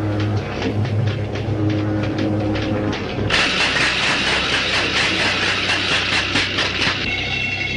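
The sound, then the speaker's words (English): Electrical machinery hums steadily. Then switches are thrown for a final test, and it abruptly comes on with a loud, harsh buzzing crackle that holds for several seconds before dropping back to a lower drone. No one speaks. “Let's have one final test. Throw the switches.”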